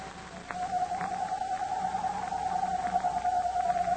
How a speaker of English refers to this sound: There's that owl again.